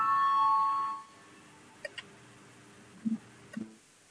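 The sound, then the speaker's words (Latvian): A parliamentary voting bell, rung to call a vote on amendment 110, rings with a steady electronic tone for about a second, then cuts off, leaving quiet with a few faint clicks and knocks. “Lūdzu zvanu, balsosim par 110. Frakcijas saskaņu priekšlikumu.”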